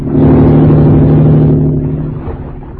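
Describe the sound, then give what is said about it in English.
A speedboat engine roars loudly and steadily, then begins to fade as it pulls away. No voices are heard. “That speedboat, it's gone away.”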